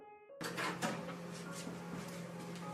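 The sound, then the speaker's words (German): A kitchen door is lifted off its hinges: a sudden burst of scraping and rattling with a few sharp wooden knocks, then a steady grinding clatter over a low background hum. “Nachdem er verlautbart, mittlerweile seine Internetrechnung bezahlt zu haben, hebt er in der Küche die Tür aus den Angeln.”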